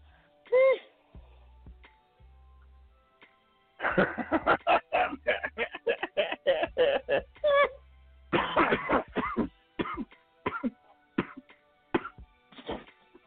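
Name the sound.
coughing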